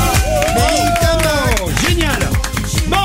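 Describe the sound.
Loud, continuous applause from a crowd for guests on the Chéri FM radio show at 8:36, mixed with whoops and shouted cheers, filling the whole stretch with dense clapping and overlapping voices.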